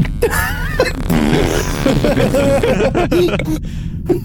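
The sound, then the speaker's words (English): A drawn-out, sputtering fart sound made with the mouth: a loud, buzzy raspberry that wobbles and flutters for several seconds without pause, with no talking. “As he says that, I fart.”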